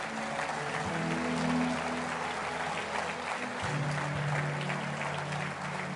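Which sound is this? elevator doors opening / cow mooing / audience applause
audience applause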